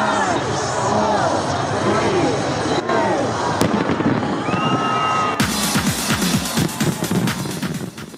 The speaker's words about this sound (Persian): در شهر سیدنی استرالیا با وجود ثبت بلندترین آمار ویروس کرونا، با آتش‌بازی از سال 2022 استقبال شد.